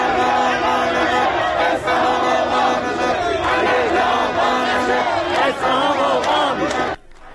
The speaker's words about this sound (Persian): تجمع هزاران نفر از مردم اصفهان در دومین هفته از اعتراض کشاورزان به بی‌آبی.